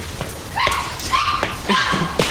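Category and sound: animal, puppies whimpering and yipping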